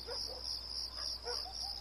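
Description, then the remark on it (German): A steady, high-pitched drone of cicadas shrilling through the night of 26 to 27 December 2008, near the road from Khan Yunis to Rafah in the Gaza Strip, continuous and fairly quiet, with faint scattered chirps underneath and no voices. “Zikaden und Straßenhunde.”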